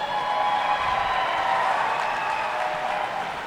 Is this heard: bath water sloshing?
no